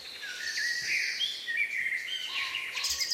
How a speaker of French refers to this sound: On avance. Des bruits de pas? Des branches qui craquent. Nous sommes dans le massif des Vosges, au cœur de la forêt.